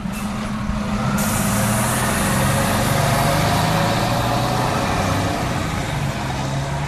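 An old Jelcz city bus of the public transport in Toruń, Poland, idles loudly, a steady, throaty diesel rumble with a low droning hum and rattling clatter that holds constant throughout, with no voices.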